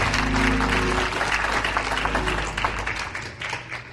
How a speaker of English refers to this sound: Give the Lord a hand clap of praise to you.